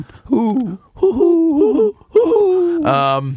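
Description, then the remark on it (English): A person mimics an owl with three quavering, wavering hoots that bend up and down in pitch, closing on a short, buzzy, strained note. Fairly loud, with no other talking. “Is that a good owl? It's a worried owl. It's a grandmother owl.”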